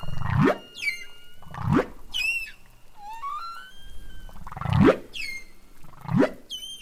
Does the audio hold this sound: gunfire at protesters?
no